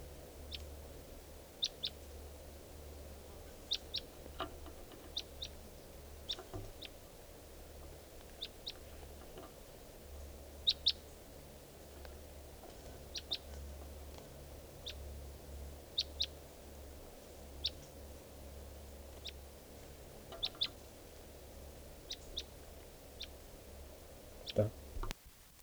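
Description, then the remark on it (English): A wild bird, recorded at 3:10 p.m., calls with short, sharp, high-pitched chirps repeated at irregular intervals, a few louder than the rest, over a constant low rumbling hum. “We're recording at 3:10 p.m. and there's a wild bird here.”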